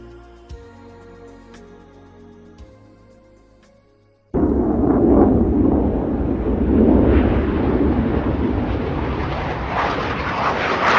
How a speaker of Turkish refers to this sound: Uçaklar. Gelişen ulaşım teknolojisinin sağladığı kolaylıklardan biri. Günümüzün teknolojisiyle hızlı gitmek artık oldukça kolay. Zor olansa hızlı ama aynı zamanda da sessiz gidebilmek.